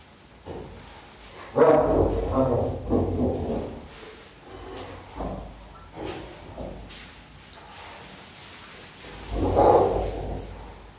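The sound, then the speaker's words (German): Harsh, growling snarls from a female spotted hyena, directed at a male, come in several rough bursts, loudest at the start and again near the end, with breathy rasping between them and no talking. “Wenn sie ihn so ein bisschen in die Schranke weist und mal gehörig anfaucht, dann geht er dann schon davon.”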